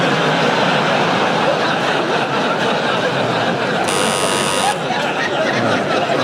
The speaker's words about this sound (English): Omid has buzzed in. Omid, I should warn you, you can't buzz in just because you've heard it before.